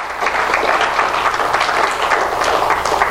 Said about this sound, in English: Let's have a wonderful hand of applause to each and every one that will be watching today by internet.